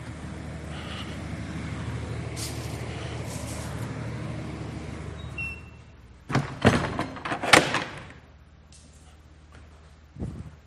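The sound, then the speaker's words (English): A bus idles with a low engine rumble, then sharp bursts of air-brake hiss and the clatter of doors opening and closing, followed by a quieter stretch and one last thump. “That's a little better without the bus noises.”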